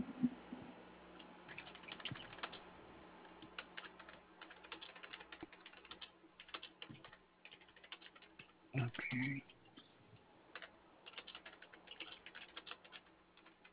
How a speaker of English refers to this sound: And I'm just typing in the notes so that we know exactly what we've already done and what our next steps are going to be.